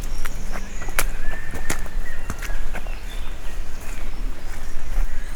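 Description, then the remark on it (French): Scattered bird chirps and whistles ring out in open woodland in the Pyrenean foothills, over a steady outdoor hiss, with a few soft crunching footsteps on the path during a hike. “Peuple des arbres. Des oiseaux, des fleurs.”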